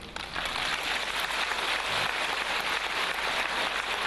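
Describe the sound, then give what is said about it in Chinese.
A large audience applauds steadily, a dense wash of many hands clapping at once that holds at an even level for several seconds, with no voices over it. “哎，鼓掌还不稀奇啊，我当场放给你们听好不好啊。”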